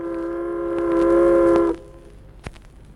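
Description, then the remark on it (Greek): A ship's whistle gives one long, steady blast lasting under two seconds. It has a rich, buzzy harmonic tone, swells slightly, then cuts off sharply, followed by a single faint knock. “Ξέρετε, κύριε, γιατί σφυρίζει το καράβι?”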